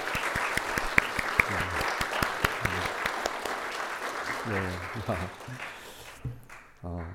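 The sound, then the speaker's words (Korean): An audience claps together as applause of glory to the Lord, in sustained, dense applause that rattles on steadily for several seconds, with a few sharper claps standing out, then thins and fades away near the end. Some voices murmur underneath. “우리 사랑하는 우리 유스 아이들이 정말 이 땅에서 하나님과 이렇게 교제하면서 하나님이 기뻐하시는 그분의 거하실 처소로 예쁘게 지어져 가며 이 세상 가운데서 하나님의 영광을 드러내는 우리 유스들, 우리 유년부들, 우리 청년부들, 우리 모두들 되게 해달라고 다 주님께 영광의 박수로 한번 드리겠습니다.”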